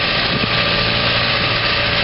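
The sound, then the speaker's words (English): A steady engine drone from a Blue River mechanical crop thinner working through a field, covering three 2-meter beds with six seed lines each (18 seed lines) at about 2.8 miles per hour, runs without a break, with a constant low rumble and a broad mid-range hum holding at an even, fairly loud level. Nobody speaks. “So this is the Blue River machine”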